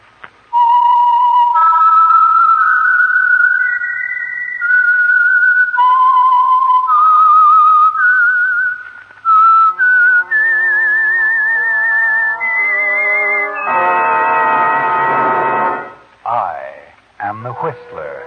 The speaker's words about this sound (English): And for Sunday evening listening pleasure, the signal to listen for is this whistle that identifies the Signal Oil program, The Whistler.